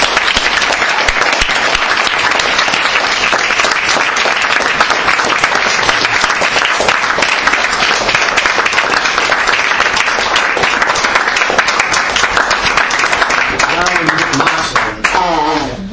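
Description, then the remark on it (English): Sustained, loud applause from a large audience, a dense wash of clapping that holds steady throughout before starting to thin out near the end as a voice begins to speak. “Anyway, let's have another round of applause”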